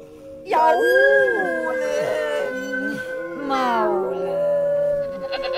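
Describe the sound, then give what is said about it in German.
A drawn-out, wavering howl rises and falls in pitch, fairly loud, with a second mournful swell near the end and no talking. “Jaulen, maulen, seufzen, kläglich mecken, blähen, stöhnen, winseln, jammern”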